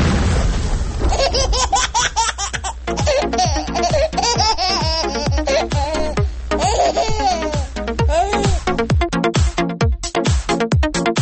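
A loud, dense explosion effect with a constant deep rumble, layered with rapid falling whistles and bright, warbling, laugh-like cries that keep bursting over it for about ten seconds.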